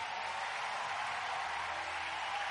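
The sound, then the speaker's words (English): A large group claps for Jesus after a prayer, in steady, continuous applause that fills the whole stretch, evenly sustained without any voices standing out. “Let's give Jesus a big hand clap.”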